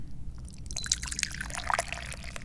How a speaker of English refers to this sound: And that is the time at which we always pour a fresh cup of tea.